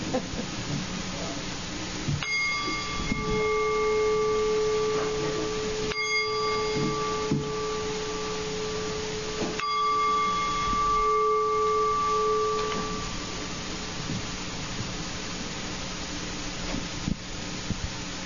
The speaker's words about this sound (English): So you'll get ready because I'm going to ring a little bell.